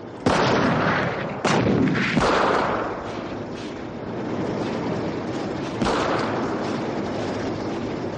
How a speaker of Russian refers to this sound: Бронебойные расчеты открывают огонь.